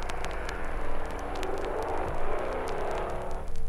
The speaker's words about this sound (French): Et parfois, le départ en trompe de la moto de l'employé d'au-dessous.